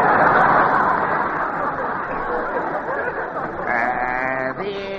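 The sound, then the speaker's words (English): A cow moos loudly near the end, a drawn-out, wavering call that breaks off and starts again, over a steady murmur of crowd chatter. “Well, I got my cow outside. Bring her in.”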